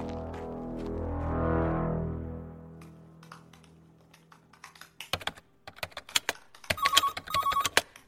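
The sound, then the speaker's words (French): A short burst of keyboard typing, then a mobile phone starts ringing with an incoming call, a bright, repeating electronic ringtone pattern in the final seconds. A low swelling hum fades out earlier. “Mais décroche, comme ça tu sauras.”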